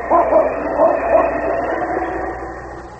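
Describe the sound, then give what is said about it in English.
A large dog named King, wearing a harness, gives three quick barks in the first second and a half over a steady rumbling background noise that carries on and slowly fades afterward. “Small Mittens Hand took hold of King's harness, and the great dog started off, not in the direction of the cabin.”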